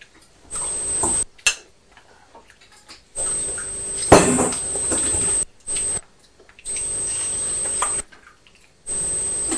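Running tap water in several steady bursts of rushing noise with short gaps between them, broken once by a sharp clunk as a beaker is rinsed. No one speaks.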